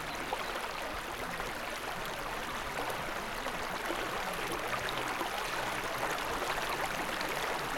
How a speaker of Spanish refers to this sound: A stream of water gushed from the tree trunk.